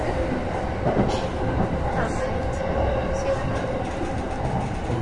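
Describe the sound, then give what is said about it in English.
Steady, loud rumble of a subway train rolling along the tracks at speed toward Yurakucho station, with a continuous low roar and faint rattling that stays even throughout. “The next station is 有楽町。The doors on the left side will open.”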